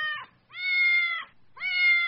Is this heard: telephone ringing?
no